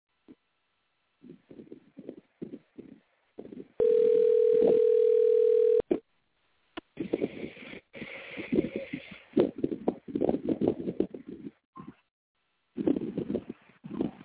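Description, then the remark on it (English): A steady, loud telephone dial tone drones for about two seconds after a caller's phone hung up during a live radio call, cutting in between stretches of muffled, clipped phone-line chatter and clicks. “Said your phone hung up.”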